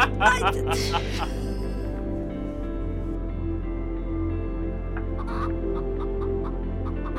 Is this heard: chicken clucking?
yes